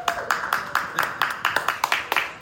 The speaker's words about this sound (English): Got everybody right here. Get the clap going.